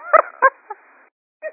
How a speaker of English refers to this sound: We either have somebody who's dog is snoring into the phone, or someone fell asleep on the line. Wake up!